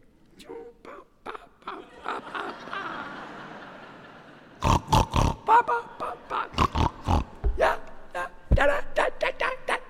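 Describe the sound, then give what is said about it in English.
A pig on a riverbank grunts and oinks, first in softer snorts, then a rapid series of loud, choppy grunts coming in quick rhythmic bursts. “On the banks is a pig.”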